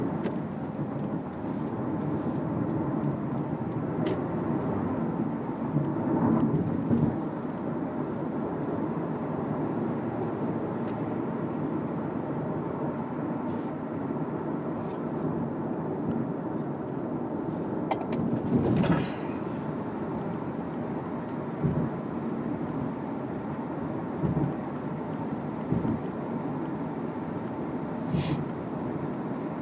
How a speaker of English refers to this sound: Whoa, big truck. Whoa, big truck incoming.